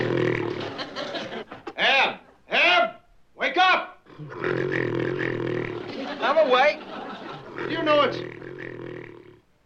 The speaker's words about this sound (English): Snoring.